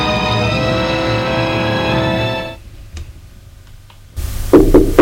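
knock on a door

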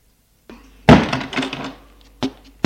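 door being closed

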